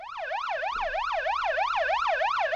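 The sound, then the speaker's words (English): A steady wailing siren, sounded as a test drill on WGR radio, sweeps up and down in pitch in a fast, regular cycle, loud and continuous with no one speaking over it. “Do you got a siren?”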